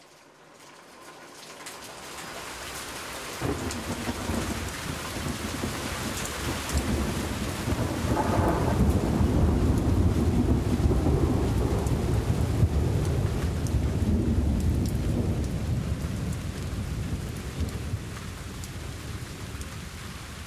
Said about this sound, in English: That drop and the clouds thundering woke me.